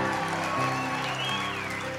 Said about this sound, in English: Why are these people clapping? I think they realize the song is almost over.